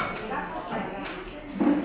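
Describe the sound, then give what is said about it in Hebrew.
A heavy window grinds and rattles as it slides along its track, a steady scraping with small clinks, ending in a louder squeal as it shuts. Voices murmur faintly in the background. “זה חלונות נורא כבדים.”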